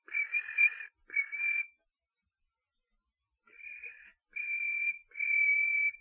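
A chirping signal, given as a reply from behind, sounds in five short, bright bursts: two quick ones, a pause of about two seconds, then three more, with nothing else in the background.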